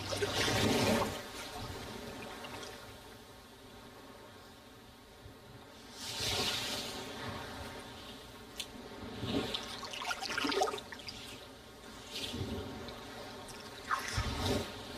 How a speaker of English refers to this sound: To listen to sea sound on a Monday morning when it's 7:30 and probably many people are going to work. I know it's a little cruel